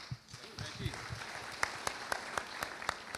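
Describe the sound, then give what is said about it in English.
An audience claps steadily, a dense patter of many hands with a few sharper individual claps ringing out in a loose rhythm, while voices murmur at the start. “Haven't said anything yet, but thanks for the clap.”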